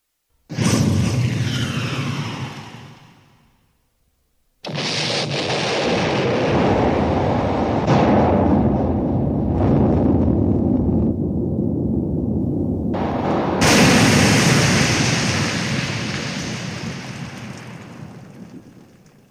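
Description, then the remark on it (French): A torpedo striking an enormous battleship amidships and exploding: a sudden heavy blast with a long rumbling roar, a brief silence, then a sustained crashing, churning roar that swells into a fresh loud burst before slowly fading. “Mais il était trop tard, la torpille arriva, heurta l'énorme navire en plein milieu et explosa.”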